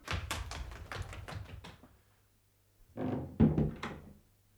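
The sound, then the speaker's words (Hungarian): A thrown axe thuds into a wooden door and lodges there: a heavy run of thunks and knocks, then after a brief silence a second cluster of solid impacts. “A balta szépen megállt az ajtóban.”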